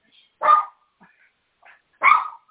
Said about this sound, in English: You can tell we're in our home. He started barking at the door.